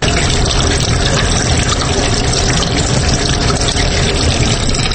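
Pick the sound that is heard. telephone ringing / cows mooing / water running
water running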